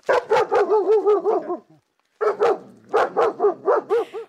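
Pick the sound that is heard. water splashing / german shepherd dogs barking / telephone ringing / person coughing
german shepherd dogs barking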